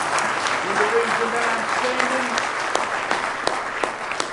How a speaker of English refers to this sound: Let's give him one more good hand clap of praise tonight if you love him.